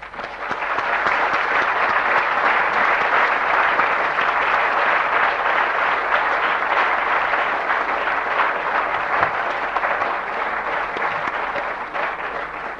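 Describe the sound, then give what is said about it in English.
Sustained, loud applause from a large audience at the end of an economics lecture by Professor Blinder, a dense steady wash of clapping that holds for about thirteen seconds before easing slightly at the end. “Professor Blinder, you can tell from the warmth of applause that many people will take away treasured memories of this lecture”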